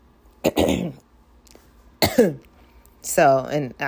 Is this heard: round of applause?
no